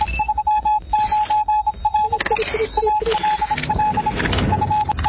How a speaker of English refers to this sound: We're going to hold a radio contest for who can decipher what that Morse code says. That'll be fun.